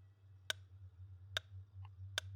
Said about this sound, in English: All right. I'm just going to start my metronome here.